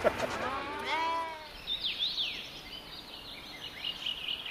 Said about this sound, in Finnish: Täällä me istumme auringon paisteessa lintujen laulaessa professori Janne Kotiahon pihalla ja juuri lampaat pääsivät laitumelle.